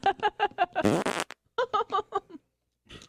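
A loud, raspy fart bursts out for about half a second, close and clear, between short choppy bursts of voice before and after.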